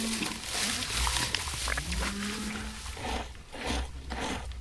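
A few low, drawn-out moos from dairy cows in a herd rise over steady outdoor rustling and shuffling, fairly close, with no one speaking.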